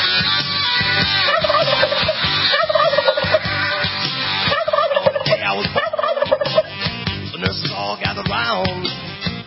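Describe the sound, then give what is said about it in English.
A flock of turkeys gobbles loudly and continuously, rapid warbling calls overlapping one another for several seconds with no talking. “Don't forget on our next show, Biggest Turkeys of the Year.”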